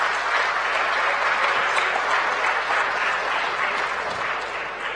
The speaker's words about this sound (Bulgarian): Мисля, че заслужава ръкопляскане това гласуване.